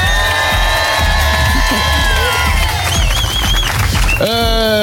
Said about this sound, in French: Le public est là, vous pouvez faire du bruit.